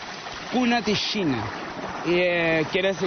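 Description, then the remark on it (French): A steady wash of flowing water from the river called Cunaquichina in the Yukpa language runs continuously in the background while a man speaks clearly over it in the foreground. “Cette rivière s'appelle en Lyupka Cunaquichina.”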